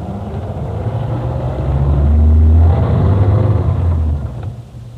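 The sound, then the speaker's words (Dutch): A car engine roars at speed on the road to Kjakta, the driver driving fast and surely and pushing the engine to its limit; a low, steady rumble swells louder in the middle, then eases off slightly toward the end. No voices are heard. “Hij rijdt snel en zeker en haalt uit zijn motor wat eruit te halen is.”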